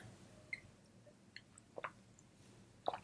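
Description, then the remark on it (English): Someone sitting on a bed in a small apartment takes a quiet sip of water: a few soft, wet mouth clicks and slurps spaced over a few seconds, against a faint low hum, with no talking. “We're going to take a quick sip of water”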